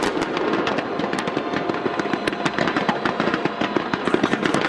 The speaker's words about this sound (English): That was Hong Kong with a massive fireworks display lighting up Victoria Harbor.